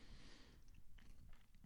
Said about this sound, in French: J'avale les chips.